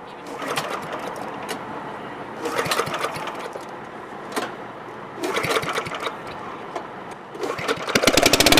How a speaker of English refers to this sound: starts up the hydraulics to lift the boat off the trailer.